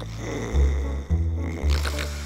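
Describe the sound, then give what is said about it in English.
A loud, deep rumbling snore drones on steadily, swelling in rough surges roughly every half second, with no talking. “Dad's snore rumbled along the hallway.”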